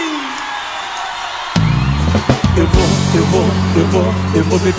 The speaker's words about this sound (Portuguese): dá um gritão aí!